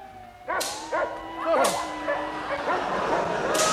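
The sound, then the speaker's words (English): A pack of sled dogs barking and yapping excitedly, sharp overlapping barks bursting out every half second or so over a steady, busy din of yips and whines. “Must keep the dogs at a gallop.”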